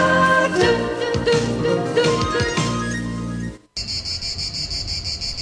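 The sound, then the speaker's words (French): A short tonal, chiming passage cuts off, then a loud, dense chorus of cicadas in very hot summer weather takes over, a shrill, steadily pulsing buzz with no voices. “C'est l'été, les cigales sont revenues et il fait chaud, très chaud.”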